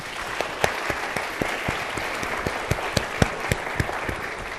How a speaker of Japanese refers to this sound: 皆さん拍手でお見送りいただければと思います。